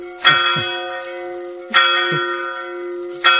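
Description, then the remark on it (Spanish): The bells of the Church of San Francisco ring out in three strong, evenly spaced strikes during heavy rain, each leaving a long, shimmering metallic hum that lingers between blows. No voices are heard. “Vamos a dejar que suenen las campanas de la iglesia de San Francisco.”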